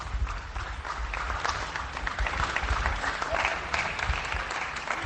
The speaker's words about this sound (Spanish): Es decir, que España entera está aplaudiendo a nuestro personal sanitario.